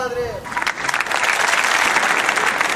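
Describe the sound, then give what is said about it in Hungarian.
Dense applause from a large crowd at a papal audience swells up after a brief opening voice, becoming a steady, loud roar of clapping that keeps building in intensity. “Milyen öröm hallani újra a tapsvihart, amely ugye egyre erőteljesebb, hiszen ahogy említettem, egyre többen vannak jelen a pápai audiencián,”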